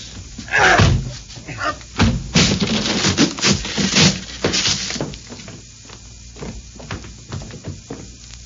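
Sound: door being broken down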